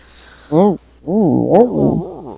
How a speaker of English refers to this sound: You might hear Milo barking. Yeah. He sounds very high-pitched. He's making very strange sounds.